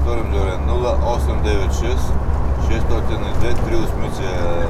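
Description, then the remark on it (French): An old Iveco truck engine rumbles steadily as it drives fast down small mountain roads in Bulgaria in rainy weather, overtaking cars, with a loud, continuous low drone and road noise throughout, while a person talks over it. “Ton camion dévale les petites routes de montagne dont les cimes sont encore revêtues d'un manteau neigeux.”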